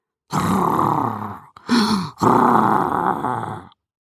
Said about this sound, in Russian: Храп раздавался откуда-то сверху.